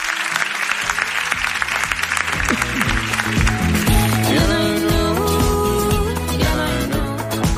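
Loud applause from the audience in Valladolid, a dense crackle of many clapping hands that continues as upbeat music with a steady beat and sustained tones rises in over it.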